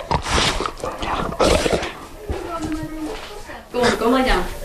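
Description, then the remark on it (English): A large Newfoundland dog whines in drawn-out, wavering bursts, mixed with shuffling and bumping as it moves around restlessly at an off-the-grid home outside Ely, Minnesota. “where she lives with her husband and two huge Newfoundland dogs who occasionally supervised her conversation.”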